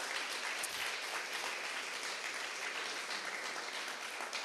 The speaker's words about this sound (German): Wir hatten ein super Mitarbeiterteam. Und ich würde sagen, gebt mal einen ganz, ganz herzlichen Applaus.